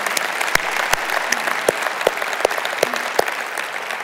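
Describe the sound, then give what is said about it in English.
An audience claps steadily to welcome the members of First Baptist Mansfield to Southwestern Seminary, a dense wash of overlapping applause with a few sharper individual claps standing out, sustained and fairly loud throughout. “Can we welcome the members of First Baptist Mansfield to Southwestern Seminary today?”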